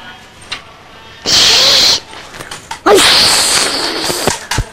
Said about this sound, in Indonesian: udah kena semburan air gajah.